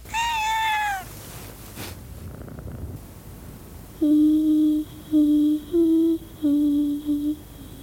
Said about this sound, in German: und die Katze begann freundschaftlich zu schnurren.